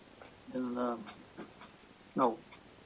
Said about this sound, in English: Okay, I'll put him outdoors. Okay. My dog is bugging me. Wants attention. We got this 5-month-old Labrador puppy that weighs 60 pounds. I think he thinks he's in charge, and maybe he is.